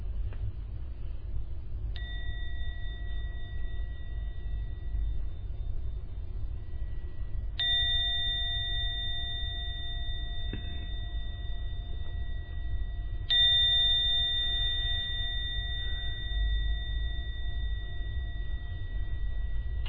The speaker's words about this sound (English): I'm now going to ring the gong 3 times to end the meditation. When the last sound of the gong vanishes, it's a signal to open the eyes.